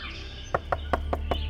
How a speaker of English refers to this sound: I was dressing for breakfast when there was a knock at my door.